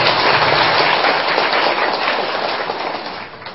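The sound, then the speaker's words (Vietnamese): A crowd applauds steadily at a Buddhist temple gathering, welcoming a nun and lay Buddhists from Quảng Ninh province in northern Vietnam. Many hands clap in a dense, crackling wash that holds loud and even before fading slightly toward the end, with no voices over it. “Và đặc biệt hôm nay đạo tràng của chúng ta có sự hân hoan chào đón ni sư và quý Phật tử, và đến từ tỉnh Quảng Ninh của miền Bắc xa xôi, xin quý vị cho chàng pháo tay.”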